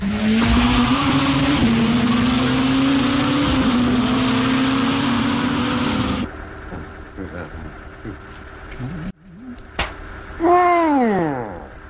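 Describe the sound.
A loud race car engine roars and shifts pitch as it races around a track, then cuts off. A brief squealing tire screech and a rising, then falling whine follow, with voices talking over the engine.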